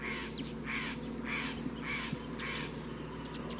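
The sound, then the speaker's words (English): A big flock of about ten crossbills calls from the treetops, with five bright, buzzy bursts at a steady pace and fainter chips scattered between them over a low background hum. “Recording, a lot of crossbills are here now. Big flock, 1, 2, 3, 4, 5, 6, 7, 8, 9, 10.”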